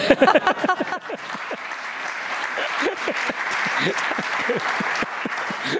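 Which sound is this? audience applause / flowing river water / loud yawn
audience applause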